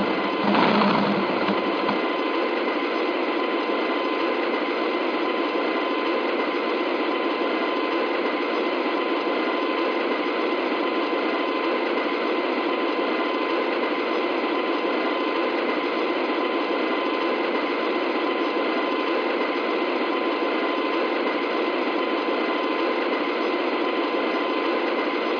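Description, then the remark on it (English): A Harley-Davidson motorcycle engine runs steadily for the whole stretch, a dense, unbroken mechanical drone with a constant whining hum, slightly fuller at the start and then holding even, with no voices. “Nah, there's nothing like the sound of a Harley.”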